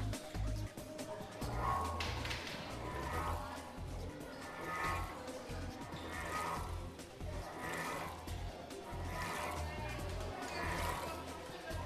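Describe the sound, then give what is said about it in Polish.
An ordinary water-filled bowl is rubbed to make it sing like a singing bowl, giving a steady humming tone under rhythmic swishes and splashes that swell about every second and a half, as a standing wave forms and water escapes from the bowl. “Mamy jeszcze fajną grającą misę. Ja potrafię grać na misce. Taka, pięknie. Taka zwykła miska i proszę bardzo.”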